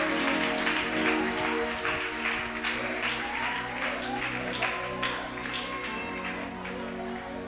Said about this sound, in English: Somebody shout. Clap your two hands together.